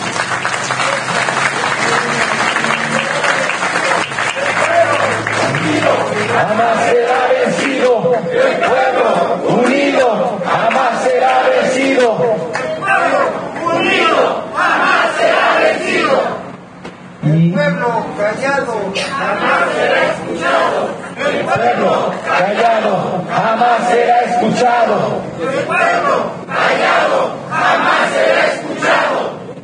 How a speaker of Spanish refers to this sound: Entonces, un aplauso para todos.